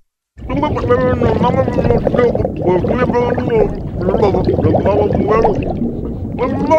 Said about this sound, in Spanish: Es normal que no entiendas nada de lo que dice. Obvio, porque está hablando debajo del agua. Y lo que está diciendo es que el nuevo Samsung Galaxy S7 es resistente al agua.